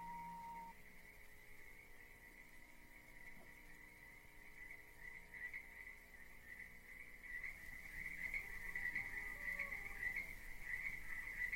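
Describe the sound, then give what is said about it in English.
A steady, high-pitched chorus of crickets chirping in the grass of a field, trilling continuously at low volume and swelling slightly toward the end, with no voices. “You can hear cows in the distance and crickets in the grass.”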